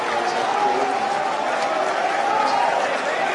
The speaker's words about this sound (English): And you're hearing everyone cheer right now because coming into the drone ship, we will show you what we can right there, and that's a view from our drone ship and literally a great thing.